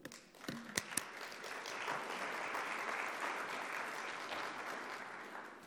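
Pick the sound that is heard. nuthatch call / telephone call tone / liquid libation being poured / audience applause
audience applause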